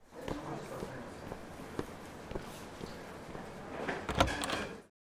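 A few soft footsteps approach, then a door is opened with a brief rattling, clattering burst near the end, fairly close and moderately loud.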